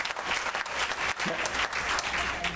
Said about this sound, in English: We got some bikers here. I want all the bikers to stand up. Quick. All right, look at here. Come on, give the bikers some hands. God bless you.